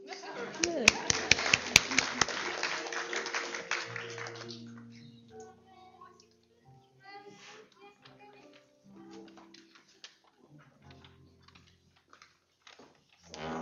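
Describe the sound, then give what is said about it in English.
A church audience breaks into a dense burst of clapping for about four seconds to welcome the children gathered around the Lord's table, then it dies away and a voice speaks quietly over scattered soft knocks and rustles. “Shall we give them a clap?”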